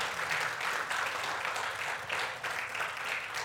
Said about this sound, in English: Come on, give me a hand clap of praise for our Lord in this place. Come on.